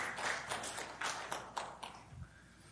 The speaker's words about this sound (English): That was a lame clap, by the way.